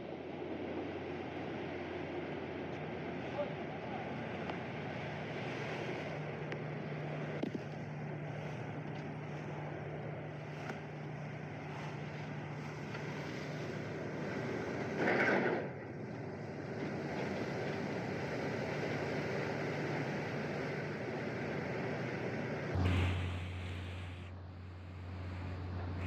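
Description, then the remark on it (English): A ship's steady engine rumble and rushing water, broken by a brief grinding surge midway, then a sudden heavy impact near the end as a Chinese Coast Guard ship rams a Philippine Coast Guard cutter at Sabina Shoal in the South China Sea, after which the low drone deepens. “It looked like the Chinese Coast Guard rams part of the Philippine Coast Guard cutter.”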